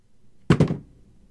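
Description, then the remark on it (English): A shoe, slipped off the foot of a seated person's crossed leg, drops onto a hard floor, landing with two quick thuds in succession, a solid hit and a brief bounce, followed by quiet room tone. “There is an audible thump sound as I slip the shoe off the foot of my crossed leg, and it hits the ground.”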